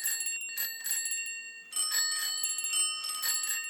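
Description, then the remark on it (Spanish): A bicycle bell rings repeatedly in quick trills, bright, metallic and fairly loud, during a bicycle ride around the neighbourhood, with a brief pause before a second burst of ringing. “Una vuelta por el barrio en bicicleta.”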